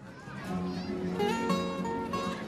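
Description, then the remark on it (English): Children playing outdoors at a christening party in a garden in the sunshine, their high voices and shouts overlapping in a busy, steady jumble of chatter, moderately loud throughout. “A christening party is in full swing in the garden of the Burris house. Children run happily in the sunshine.”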